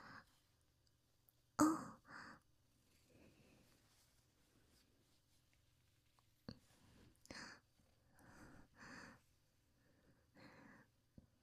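Heavy breathing from an older brother: loud, rough breaths in short clusters with quiet pauses between, some sharp and sigh-like. No one speaks.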